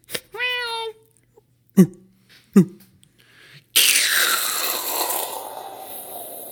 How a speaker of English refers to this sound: Wow. That was a plane passing.